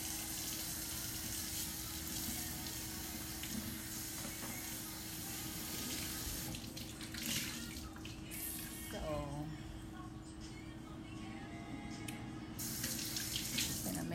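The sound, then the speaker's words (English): Water boils steadily in a pot for spaghetti, a continuous rolling, bubbling hiss that fills the whole stretch, with a faint voice briefly audible underneath. “So our water is finally boiling.”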